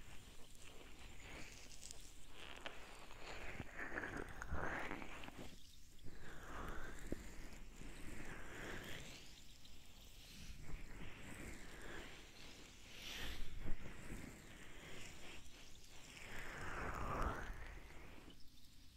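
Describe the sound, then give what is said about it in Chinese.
Muffled rubbing and squeezing sounds with soft scratchy friction as the ears of a binaural microphone are pinched and rubbed, continuous with swelling pressure surges, intimate, no talking. “解放你捏捏小耳朵”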